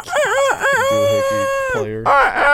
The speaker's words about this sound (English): Oh, dude, the fucking rooster.